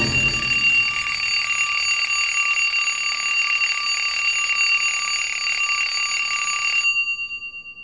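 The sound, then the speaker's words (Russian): An alarm clock rings loudly and continuously with a shrill, buzzing metallic tone for about seven seconds, then cuts off abruptly into silence. No one speaks. “И без 15:09... будильник неожиданно для себя женился на подушке.”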